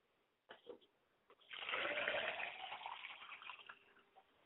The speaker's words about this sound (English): I pour a glass of water for my father, that he may have his thirst quenched, and he may be endowed.